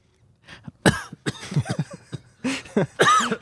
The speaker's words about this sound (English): I'm pretty lonely. I'm getting a cough. I'm getting a bad lonely cough.